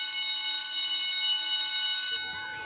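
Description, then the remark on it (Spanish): A loud electric school bell rings at 2:00 in one continuous, harsh metallic trill for about two seconds, then cuts off abruptly, leaving a faint fading tail. “Cuando el timbre suena, niños y niñas corren enloquecidos y hambrientos hacia la calle o el comedor.”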